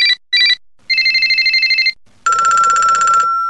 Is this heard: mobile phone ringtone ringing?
yes